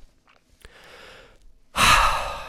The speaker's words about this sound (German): Ruhig einmal oder auch zweimal tief durchatmen. Reduziert deinen Stress, erhöht den Sauerstoffgehalt, verbessert dein Denkvermögen und macht es dir sehr viel leichter, mit dem Stress umzugehen.